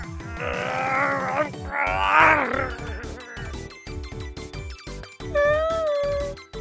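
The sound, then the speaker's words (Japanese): A voice makes rough, dog-like growls and groans, a few strained snarling bursts in the first half, then higher whining sounds, over a steady background music track; the growler is portrayed as a werewolf. “なんか犬みたいに。”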